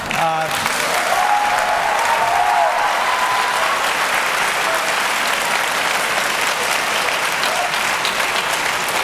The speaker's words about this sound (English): Great, keep applauding.